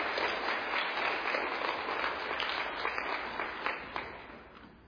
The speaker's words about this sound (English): All right, let's give one more round of applause for these kids and all the hard work they contributed.